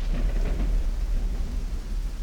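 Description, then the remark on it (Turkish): Heavy rain pours steadily and without pause, beating on Noah's large wooden ship, with a deep, continuous low rumble beneath it, loud, with no voices. “Nuh'un ailesi durmak bilmeden gemiye vuran yağmurun sesini dinliyordu.”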